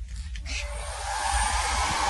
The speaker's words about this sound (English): So I'm trying to dry them off with my air dryer.